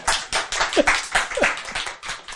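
An audience at a Buddhist dharma talk claps together in a steady, fairly loud burst of applause, the individual claps blending into a dense, rhythmic patter, with a few faint voices rising briefly underneath.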